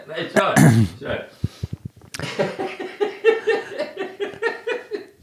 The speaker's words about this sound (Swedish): Ska du snyta det precis när jag ska...